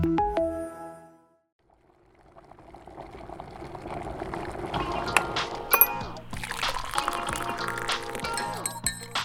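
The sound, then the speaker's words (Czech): A short run of bright tonal notes, a brief pause, then liquid pours steadily into a cup, growing fuller and louder, punctuated by several sharp clinks of ceramic. “Jiný hrníček.”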